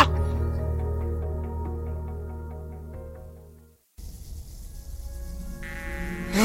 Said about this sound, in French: Voilà. Le Ghana m'a manqué. Par contre, ces putains de mouches, un peu moins.